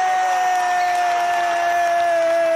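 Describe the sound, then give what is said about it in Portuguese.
An audience breaks into steady, dense applause to welcome a guest on a Rádio Novo Tempo program, the applause going evenly for a few seconds, with a sustained high tone held throughout. No one speaks. “Senhoras e senhores, muitos aplausos para receber”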